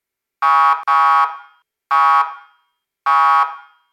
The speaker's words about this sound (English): Horn.